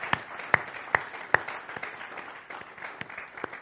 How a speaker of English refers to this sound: And I want to give a shout out to all the dads today. Happy Father's Day. Let's give a round of applause to our dads.